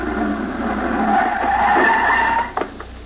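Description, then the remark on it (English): A racy sports car comes around a corner, its tires squealing in a long, loud skid with a roaring engine, a sliding high-pitched whine rising, then a couple of sharp bumps as it abruptly stops. “As he was walking along the boulevard and bent over to pick up his cigar, all of a sudden around the corner came one of those racy sports cars.”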